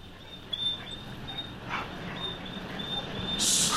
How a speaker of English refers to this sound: Now, come on, there's a good dog.